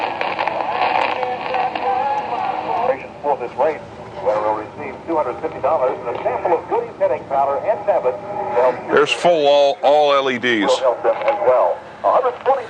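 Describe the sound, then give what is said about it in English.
A broadcast voice from a local AM station at 750 comes through a radio with the gain turned up, with a slightly rough, distorted tone, set against a steady hiss of reception noise and occasional warbling interference. “Now you can just hear a little bit of distortion in that.”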